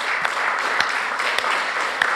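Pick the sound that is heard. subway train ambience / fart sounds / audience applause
audience applause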